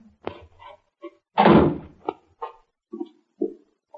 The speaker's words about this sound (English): That's the cellar door. Open it, Bucky. Right. Down the steps.